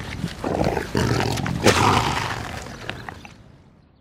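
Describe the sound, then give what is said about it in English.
A lion that is eating lets out a loud, rumbling roar that swells over a couple of seconds, then fades away into quiet, with no voices present. “Oh, look at the lion. Isn't it great? It's eating.”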